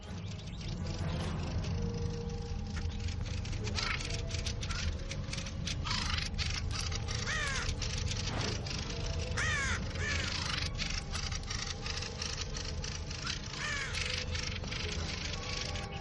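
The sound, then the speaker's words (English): Harsh, agitated squawking from several birds threatening and mobbing an intruding raven in a steady, overlapping barrage of caws and shrieks. It is loud, over a low rumbling background with no speech. “One of the birds squawks angrily and threatens the intruder.”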